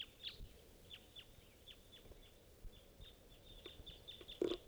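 A scattered series of short, sharp 'kip' calls from type 2 red crossbills, repeated every fraction of a second at a high pitch, faint over a low rumbling background with no talking.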